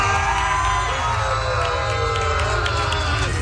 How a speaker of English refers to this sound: Why are we cheering? We should be booing.